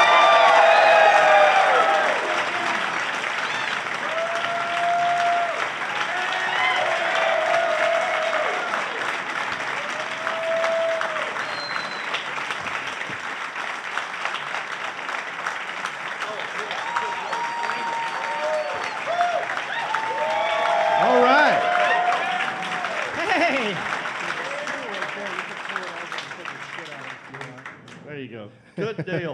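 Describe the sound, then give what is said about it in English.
An audience at the Queen City Comedy Festival in Charlotte applauds steadily for nearly thirty seconds as comedians are welcomed, with cheers and whoops rising above the dense clapping, swelling again toward the end before fading out. “Please give it up”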